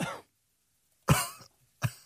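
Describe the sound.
Three short, throaty, low coughs separated by brief pauses, moderately loud, with no talking around them; an uncomfortable cough after a joke falls flat.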